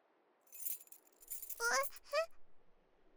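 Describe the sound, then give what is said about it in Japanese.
A brief jingle of a spare house key, bright and metallic, shaken a couple of times as it is handed over, before a short high-pitched voice breaks in over the final moments. “これって合鍵？本当にもらっていいの？”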